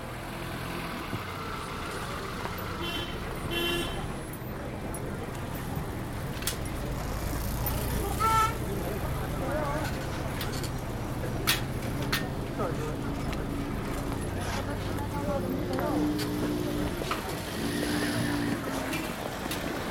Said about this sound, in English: You know, there's all kinds of vehicles. The variation of vehicles is just amazing. And the only thing you don't see is big cars, lots of big cars or trucks that you don't see.